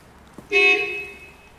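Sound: car horn honking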